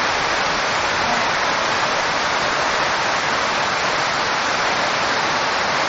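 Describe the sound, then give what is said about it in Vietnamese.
A steady, dense roar of heavy rain pours down without pause, a continuous loud hiss filling the space with no breaks or voices. “À à à, các vị nào ở dưới muốn thì dồn lên chút đi, trời mưa lớn quá, sửa ngồi dưới nghe.”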